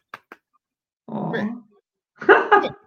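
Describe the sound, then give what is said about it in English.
A puppy named Goldie growls and grunts in a few short, rough bursts, with a couple of tiny clicks before them and brief pauses between. “Aww, puppy! Your puppy made an appearance in the podcast.”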